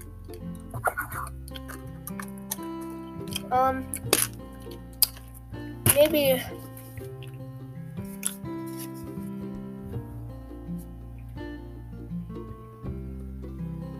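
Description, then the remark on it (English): Close-up crinkling and creasing of a paper sheet being folded into a paper airplane, with scattered sharp rustles and a few louder crackles as the sheet is pressed into shape; a voice briefly speaks once. “I'm hoping that paper sums are enough because that's what I'm giving. And paper airplane.”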